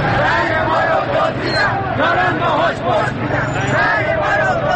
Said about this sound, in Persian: صدای تیراندازی که می آید هر سهشان به سمت پنجره خانه می روند و چشم می دوزند به خیابانی که حالا سراسر همهمه و فریاد است.